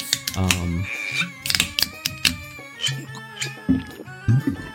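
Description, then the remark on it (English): A loud, low, rumbling real burp, played back as a sound clip, lasts just under a second, followed by a run of sharp clicking and tapping sounds with bits of voice mixed in. “That's a real burp.”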